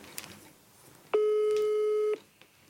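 A single steady ringback tone of an outgoing telephone call sounds for about a second, loud and clear, with faint background noise before and after it. No one speaks.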